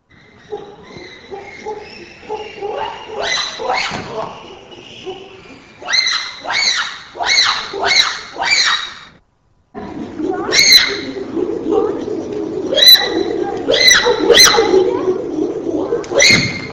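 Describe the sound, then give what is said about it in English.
Two bursts of animal hooting split by a short silence: deep, low hoots alternating with smoother, drawn-out legato hoots in a steady repeating rhythm, loud with rough background noise. “Examples 1 and 2, low hooting alternating with legato hooting.”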